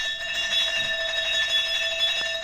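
door bell being rung

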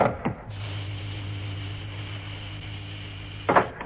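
door opening

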